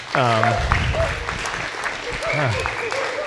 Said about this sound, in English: You see, I still get caught off guard. We clap now. I love it. I wasn't expecting that.